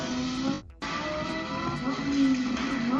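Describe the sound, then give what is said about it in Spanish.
A car engine roars loudly, its pitch climbing as it revs, with a brief cut-out before the heavy, steady rumble resumes. “Cada vez me gustan más los motores que suenan más fuertes.”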